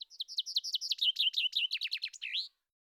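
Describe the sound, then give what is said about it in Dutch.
A chaffinch sings one full, clear song phrase: a rapid descending series of bright trilled notes accelerating into a flourish at the end, alone with no other sounds. “De luiden uit bundig klinkende vinkenslag, bij ons ook vaak klanknabootsend suskewiet genoemd, is in de lente in heel Europa een vertrouwd geluid.”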